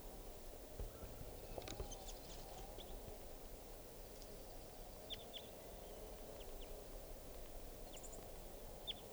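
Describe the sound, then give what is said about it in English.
Faint, scattered high chirps and short twittering notes of a type 4 juvenile crossbill singing, recorded just after it bounced out of a net, coming in brief bursts over a steady low rumble of background noise. “Recording now, it sounds like a bird is crossbill song here. I think it's a type 4 juvenile.”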